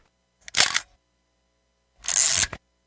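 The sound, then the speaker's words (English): New film being loaded into a Brownie Instamatic camera: two short, harsh mechanical bursts of whirring and clatter about a second and a half apart, with no one talking. “Now I got to put new film in the camera, everybody.”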